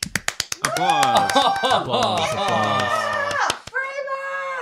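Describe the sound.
Audience applause: sharp handclaps in a fast, steady rhythm, soon joined by loud whooping and cheering voices over the clapping, ending on a single high, sustained shout.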